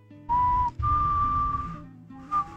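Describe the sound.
A slow, mournful whistled melody with a few long, sustained notes that bend gently downward, clear, over a faint low background rumble, with no talking.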